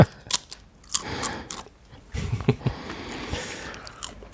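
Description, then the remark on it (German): Crisp crunching of someone biting into and chewing crunchy cookies (Plätzchen) from the table, with a few sharp bites followed by steady, irregular mastication noises and no speech. “Aber wir haben hier knusper Plätzchen auf dem Tisch.”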